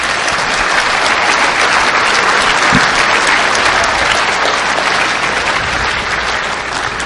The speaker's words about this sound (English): Nice job, everybody. So round of applause just to the hackers for staying up that long.